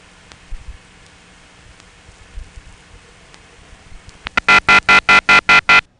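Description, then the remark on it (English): After several seconds of faint line hiss, a loud ringing tone from a DMS-10 telephone switch in Cleveland, Georgia, recorded in 1983, starts near the end, broken into about eight rapid, evenly spaced pulses that give it an odd choppy modulation. “There's that funny modulation again. I think DMS-10s may do this.”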